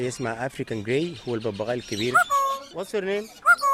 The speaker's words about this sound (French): La plupart des oiseaux ici sont des perruches, à collier, à croupion rouge. Certains sont indiens ou africains. Le gros perroquet gris, c'est un perroquet du Gabon.